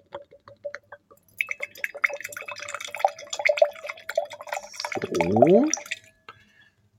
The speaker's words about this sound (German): Also gut, dann gebe ich das hier mal auch ins Glas.